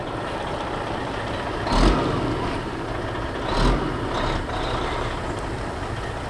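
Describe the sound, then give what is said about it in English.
A tractor engine rumbles steadily in the open while planting this year's crops in central Ohio, with two brief louder surges as it works, heard alone without any voices. “In the central part of the state, tractors are busy planting this year's crops.”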